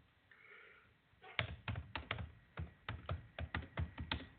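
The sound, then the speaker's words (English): Rapid, uneven clicking of keys on a computer keyboard, starting after a second of near silence and continuing in irregular bursts with no talking, as a radio host types while on the air. “And I'm typing away here.”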